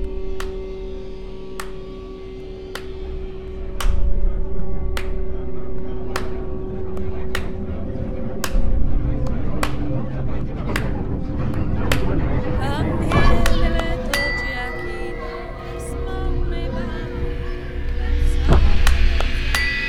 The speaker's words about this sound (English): And I thought it needs to be really basic. So I'll get some sort of a drum-like sound and a clap, and maybe a little brass bell or something that dings every now and then. And that's it. That's what I did.